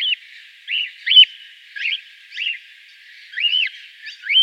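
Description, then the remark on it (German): A cockatiel, an Australian bird, calls repeatedly in short, shrill, rising-and-falling chirps, about eight calls spaced irregularly over a few seconds, fairly loud with no talking. “Die Rede ist vom Nymphensittich, einem australischen Vogel, der dort in großen Schwärmen trockene Gebiete bewohnt und sich dort von Körnern und Früchten und so weiter ernährt.”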